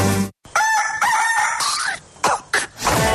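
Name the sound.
rooster crowing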